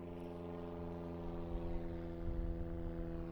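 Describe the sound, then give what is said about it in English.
A small propeller plane drones steadily overhead, its engine a constant harmonic hum that swells slightly louder partway through, with no one speaking. “The plane is just right above me.”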